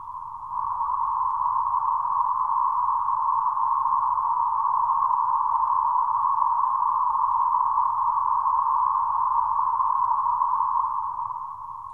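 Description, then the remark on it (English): A steady band of white noise passed through a third-octave band filter, centered around a midrange pitch, sounding like a hissy, whistling hum that holds constant for about twelve seconds with no speech, fading in and out briefly at the edges. “Let us connect the white noise to a third octave filter and listen.”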